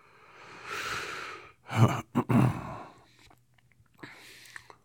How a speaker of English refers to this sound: Would you stop snoring? Hey. Shh. Stop snoring. You're ruining story time.